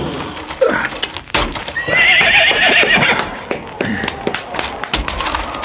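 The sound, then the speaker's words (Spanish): Horses whinny loudly, a long shrill neigh in the middle, while hooves clip-clop in a steady, scattered rhythm throughout, with faint voices in the background; the horses are worn out after five hours on the road as the riders halt to dismount. “Los caballos no dan más. Más bien desmontemos.”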